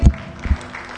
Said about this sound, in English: Come on and give Jesus a hand clap.